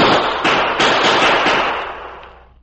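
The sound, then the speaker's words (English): A rapid volley of several loud gunshots fired in the desert, sharp cracks that run together into a rolling, echoing roar before slowly dying away. No voices. “Perhaps someone will hear the shots.”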